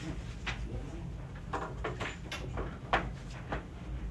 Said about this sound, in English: Let me just close the door.